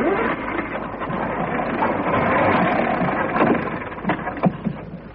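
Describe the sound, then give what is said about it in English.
A bus engine cranks and churns with a steady mechanical rattle, never catching, with a few louder sputtering bursts toward the end before it trails off. “I don't know what's the matter with this wretched bus. Won't go anymore.”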